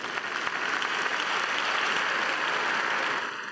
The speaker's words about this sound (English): I'm going to clap it up for young Daniel.